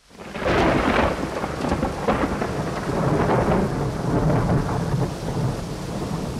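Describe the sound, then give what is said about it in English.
A loud, continuous thunderstorm: deep rolling thunder rumbles over steady, heavy rain hissing, with no voices, swelling up quickly and staying dense throughout. “When shall we three meet again? In thunder, lightning, or in rain?”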